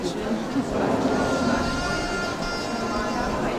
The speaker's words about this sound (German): Dass das Schaf, das da drüben Geräusche macht. So ein Bäh. Ein Schaf zum Beruhigen. Vielleicht. Nee. Ja, ein Kuschelschaf. Eine Art elektrisches Schaf. Hier bei der Frau auf dem Arm hier.